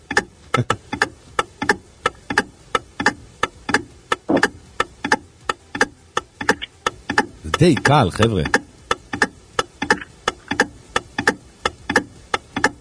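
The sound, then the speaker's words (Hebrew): An electric clock ticks steadily and loudly at about two ticks per second throughout, with a brief burst of voices talking near the middle. “שעון חשמל עובד סתם, חינם.”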